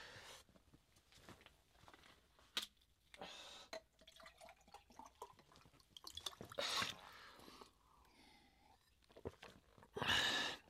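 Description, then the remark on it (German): Water pours into a glass in short splashy bursts with faint drips and clinks in between, fairly quiet, with no one talking. “Entschuldigung, ich brauche ein Glas Wasser.”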